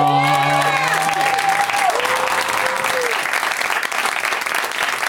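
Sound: audience applause and cheering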